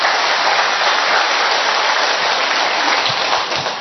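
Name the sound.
audience applause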